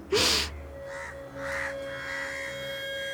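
Crows caw: one loud, harsh caw, then a series of fainter, rougher caws in a loose rhythm, with a steady faint hum in the background and no voices.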